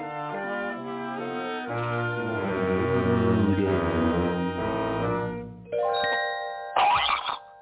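Bright, resonant bells peal in a layered, sustained sequence, loud, their tones ringing over one another before a short noisy burst at the end.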